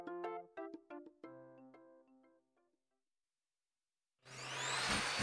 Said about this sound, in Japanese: 俺が休んどうの狙ってわざと掃除機かけようやろ。 なんがね、一日のうちの掃除機かけるのはこの時間って決まっとうと。